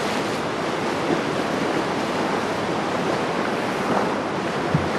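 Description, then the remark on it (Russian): A tidal bore surges up a river as millions of cubic metres of sea water move against the current at high tide, around small islands, at up to 40 km/h with a wave 8-9 metres high, in a dense, unbroken roar of churning water. The rushing sound stays loud and steady throughout, with no voices. “Миллионы кубометров морской воды во время прилива движутся против течения реки, огибая небольшие островки”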